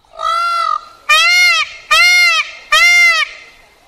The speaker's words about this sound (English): Because Pete said he had a sound of what the peacock sounded like, and I'd actually like to know. I think it's more of a yell, but I'm not sure about that.